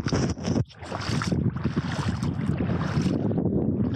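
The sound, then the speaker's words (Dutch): Steady outdoor wind, picking up again, rumbles and buffets the microphone, a loud, continuous low roar with gusty surges and a brief dip near the start, with no one speaking. “Bovendien komt de wind al een beetje terug.”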